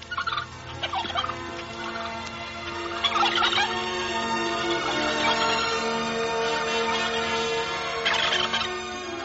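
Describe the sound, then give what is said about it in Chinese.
A flock of turkeys on a pasture gobbling continuously, with several overlapping bursts of loud, rattling calls rising above a steady background of clucking, with no one talking. “第一件要办的事情就是快上牧场去照料火鸡们，特别是那个瘦小的风铃”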